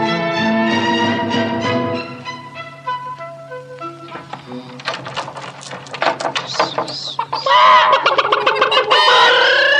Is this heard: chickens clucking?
yes